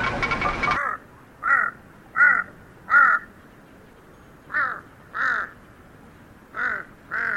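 A huge Tibetan crow hopping across a high field gives a series of harsh, throaty caws, loud, in pairs with short pauses between, after a brief burst of rustling noise at the start.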